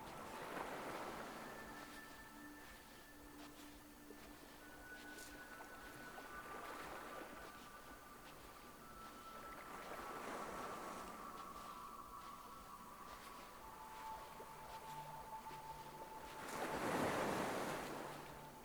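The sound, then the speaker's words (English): Waves wash ashore in slow, swelling surges, the loudest breaking near the end, over a steady windy hiss with faint sustained tones drifting in the background. No one speaks. “The sea is glimmering.”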